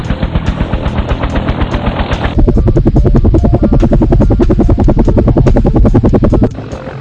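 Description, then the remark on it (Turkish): A helicopter flies, its rotor beating out a loud, rapid, steady chopping rhythm that continues throughout, with no voices. “Helikopter havada asılı durabilir, dikine iniş kalkış yapabilir.”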